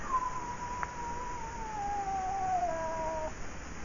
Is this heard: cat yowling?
yes